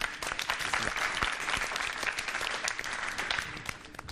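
A crowd claps steadily, a dense burst of applause sustained for several seconds at even loudness, with no one speaking over it.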